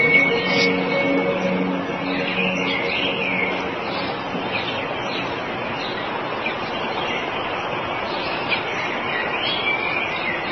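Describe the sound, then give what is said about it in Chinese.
A sparrow chirps in short, scattered bursts against a steady wash of outdoor background noise, the calls fairly soft and repeating irregularly throughout. “個仔搭佢一隻麻雀。”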